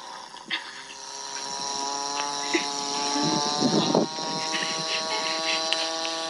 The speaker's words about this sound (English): Instead, I found a YouTube video of a cow farting for 30 seconds.